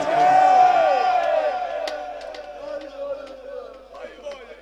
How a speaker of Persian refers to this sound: به شما نفس بده، به شما قدرت بده بتونین دستا رو بالا بیارید، با همه وجودتون حیدر حیدر بگید.